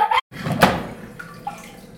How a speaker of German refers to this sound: Das war eine Klospülung.